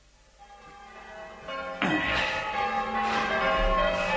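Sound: church bells ringing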